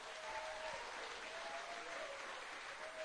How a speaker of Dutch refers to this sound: Zullen we die mooie muziekgroep een applaus geven.